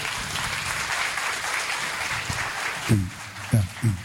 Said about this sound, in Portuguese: Uma salva de palmas.